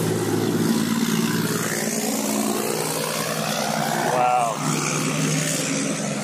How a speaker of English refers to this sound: That's a dirty truck. That's a diesel truck right there.